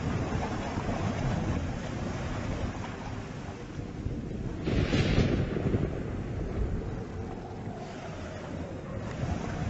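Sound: roaring rushing river water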